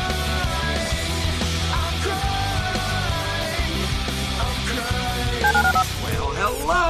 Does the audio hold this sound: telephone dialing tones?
yes